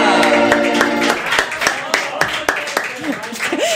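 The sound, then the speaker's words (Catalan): Loud, sharp hand claps land in an uneven rhythm, about a dozen of them, over a held tone at the start and some brief vocal sounds toward the end. “Aplaudeixes molt fort, vull dir, tot sí, és tot molt és gros, gros, eh?”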